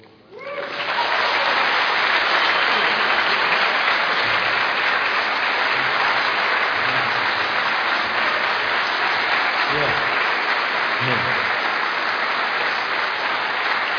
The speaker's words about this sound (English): Okay, I never got a clap as big as that. it's great.